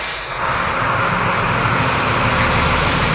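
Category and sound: vehicle, delivery truck driving away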